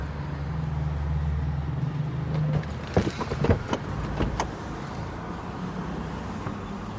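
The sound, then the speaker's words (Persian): A car engine hums low at idle on a street after dark, followed by a quick burst of mechanical clunks and clicks as the car is started, then the steady rumble of the car moving off. No one speaks. “پریسا پیاده میشه، بیتا ماشین رو روشن میکنه و حرکت میکنه.”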